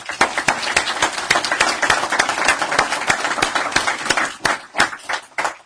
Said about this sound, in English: But really, I wanted to just to welcome you to Brookings and look forward to the conversation and maybe ask everyone else to join me in a round of applause as well.